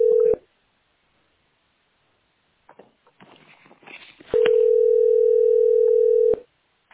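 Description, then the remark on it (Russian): A steady telephone dial tone cuts off after a brief moment, followed by soft clicking and handling noises, then the same flat tone returns for about two seconds. “Меня смущает, что они говорят, что я звоню в расчетный центр.”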